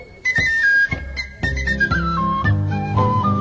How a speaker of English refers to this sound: Great tin whistle playing, too.